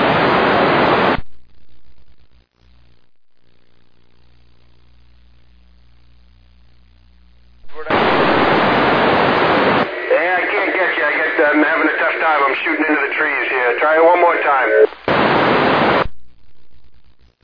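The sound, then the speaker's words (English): Harsh static from a fading satellite radio signal bursts in, drops to a near-silent hum for several seconds, then returns with a faint, garbled voice breaking through the hiss before a final burst of noise. “I got the Victor Echo 3, the bird's taking a fade on me, try it again, Whiskey 7 up.”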